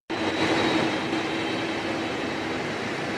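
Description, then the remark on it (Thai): A loud, steady jet engine roar of Air Force One, the plane President Barack Obama used to travel to Poland, begins abruptly and holds constant, a broad rushing noise with a faint high whine, with no voices. “ครับนั่นคือเสียงเครื่องบิน Air Force One ที่ประธานาธิบดีบารักโอบามาใช้เดินทางไปยังโปแลนด์”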